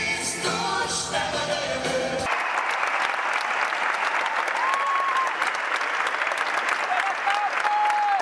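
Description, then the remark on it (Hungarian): A song's final bars cut off and a huge arena crowd bursts into a sustained ovation for Pope Francis as he rides through the arena in a mini popemobile during his papal visit, dense applause steady and loud throughout, with a few high whistles rising above the clapping. “Ez az ováció pedig már a Szent Atyának szólt, aki egy mini pápa mobillal gurult végig az arénán”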